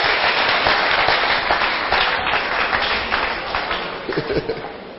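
A large group claps together in a dense, sustained burst of applause, thinning slightly toward the end as a few sharper individual claps stand out.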